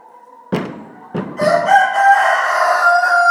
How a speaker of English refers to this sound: Every time I hear the rooster now, I think the Christmas song is going to start.